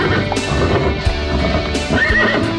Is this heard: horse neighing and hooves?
yes